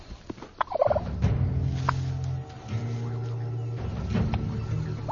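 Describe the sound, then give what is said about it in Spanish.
Wild turkey males gobble repeatedly in a meadow in autumn as they fight over mating rights, a rapid rattling call over a steady low rumbling drone with scattered sharp clicks and rustles. “El otoño también es la temporada en la que los pavos salvajes empiezan a pelear.”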